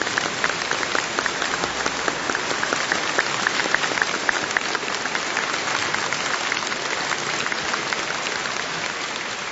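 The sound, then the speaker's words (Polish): A large crowd applauds steadily for the whole stretch, a dense, even wash of clapping with no pauses, sounding broad and reverberant, in the cathedral of Saint Stanislaus. “Brawo. Mi incoraggiano.”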